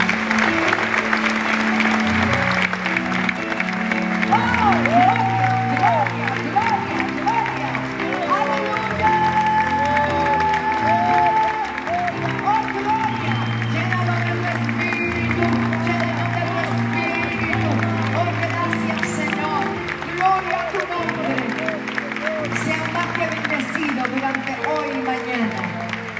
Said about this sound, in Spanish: Yo creo que puede darle un aplauso al Señor.